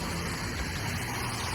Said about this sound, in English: All right, here comes the tow truck. It's a big truck, which is good, because we're gonna need a big truck.